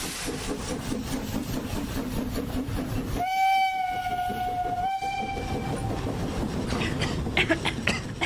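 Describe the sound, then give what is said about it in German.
A steam locomotive from the locomotive maker Borsig chugs along in a steady, rumbling rhythm, then its high whistle sounds in a long, bright blast with a second short toot before the chuffing carries on alone. “Die Eisenbahnen des Lokomotivenlieferanten Borsig stießen ihren Dampf in die Luft”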